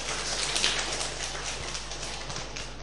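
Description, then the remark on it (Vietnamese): A round of applause from a Buddhist teaching class after a participant's sharing, dense overlapping claps that hold at a steady, fairly loud level for a few seconds with no voices over them. “Chúng ta cho tràng pháo tay.”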